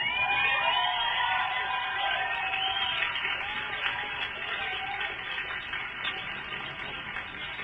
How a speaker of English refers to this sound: Let's have another round of applause for that incredible essay, high school student.